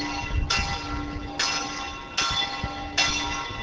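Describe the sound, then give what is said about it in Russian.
At 12 noon in the medieval town of Telč, the clock on the old town hall on the main square strikes in slow, steady succession: four resonant chimes at roughly one-second intervals, each ringing bright and loud before fading into the next, with no voices. “В Телче 12 часов дня, и часы на старинной ратуше отбивают свои 12 ударов, как бы подтверждение того, что жизнь в средневековом городе Телч продолжается.”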